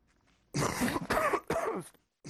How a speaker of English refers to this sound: A simple cough can spread a number of deadly diseases, including tuberculosis.